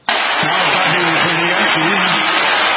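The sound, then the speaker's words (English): A loud, steady roar of the crowd cheering at Yankee Stadium for Derek Jeter's last at-bat in his final game. It starts abruptly and holds throughout, with many voices chanting together in repeated rhythmic bursts above the din. “So anyway, Derek Jeter yesterday at the end, as the stadium announcer is talking about him and his career and it being the final game, listen to the crowd here as the cheers at Yankee Stadium become...”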